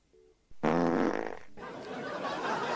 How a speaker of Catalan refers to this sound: Fot un pet allò, que si estàs a prop et queden... Bueno, et quedes sense cabell si en tens. Bueno, de fet... No, amb això dels pets, No, amb això del foc, amb això dels pets passava això.